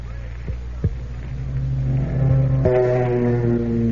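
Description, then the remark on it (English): The engines of a Lockheed P-38 Lightning aircraft roar with a steady low drone, then rise in pitch as they rev up, layered harmonic tones swelling loud and continuous, with a couple of brief thumps early on. “Sound gang, that's the motors of the whole world. The Lockheed P-38 Lightning sure lives up to its name.”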